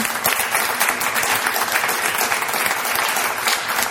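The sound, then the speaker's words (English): An audience claps steadily and loudly, a dense wash of many hands with no pauses, the rapid overlapping claps blending into a continuous roar of applause throughout. “But the one that actually deserves all this applause is Humanity in Action, and especially Pat Cox.”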